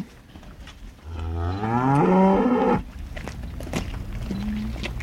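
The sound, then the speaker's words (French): A red cow named Icar, raising its head on a farm, gives a single loud moo that rises in pitch and swells for about two seconds, then cuts off, leaving faint farmyard background noise with some soft clatter. “Là, la vache rouge là, qui lève la tête, celle-là, c'est la vache de la brique.”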